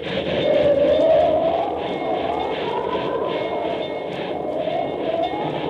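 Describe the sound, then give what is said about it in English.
A train advancing through the Wasatch Mountains toward the pass at Medicine Bow, with a blizzard coming, rumbles steadily along the tracks, a dense, continuous mechanical roar with a rhythmic undertone and a thin high whine, fairly loud throughout. “Precisely speaking, in the Wasatch Mountains, advancing by train toward the perilous pass at Medicine Bow.”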